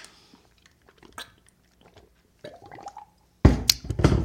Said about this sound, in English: So, before I get started, I'm going to take a quick swig of water and we're going to get her going.